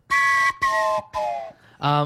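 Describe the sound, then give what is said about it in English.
A train whistle sound effect: three steady, breathy, chord-like blasts in quick succession, then a shorter, lower-pitched toot to finish. It is loud and there is no talking. “Blow the chain whistle.”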